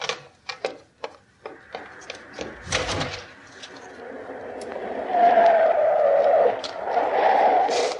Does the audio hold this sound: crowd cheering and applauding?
no